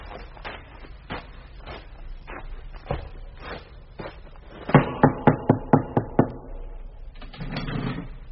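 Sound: knocking on a gate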